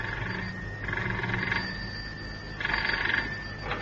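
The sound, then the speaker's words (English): A telephone in a house on Stone Street rings twice in short bursts, a buzzy double-ring pattern separated by a pause, with no voices. “Cannon had hardly put the phone down in the house in Stone Street when it rang.”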